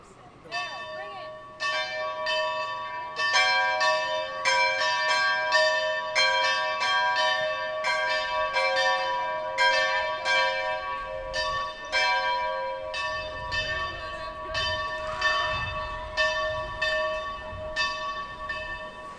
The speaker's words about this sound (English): All right, so it's December 21st, the solstice, 2008, and it's 4:53 p.m., and we're going to start ringing the bell in about 3 seconds.